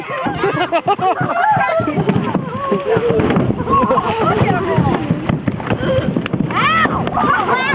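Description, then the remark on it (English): Jumping Asian carp repeatedly thump and bang against a family's boat hull from all sides in irregular bursts, almost drowned out by the family shrieking, shouting and laughing throughout. “Well, here's the sound of a family being bombarded by Asian carp from all sides.”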